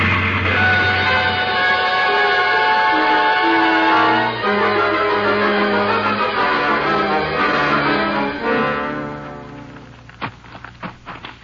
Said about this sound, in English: Now there's the engine, Jace. Sure is a straining up that hill.